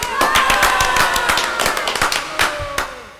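A crowd applauds with a dense, irregular patter of sharp claps, while cheering voices ring out underneath; the clapping stays loud and steady throughout.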